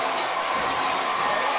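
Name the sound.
football stadium crowd cheering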